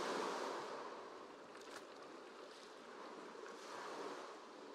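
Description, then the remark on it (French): Gentle little waves wash in on a sandy beach, a steady soft hiss of water that swells and eases in slow surges, with no voices. “Et les petites vagues viennent baigner vos pieds et vos chevilles.”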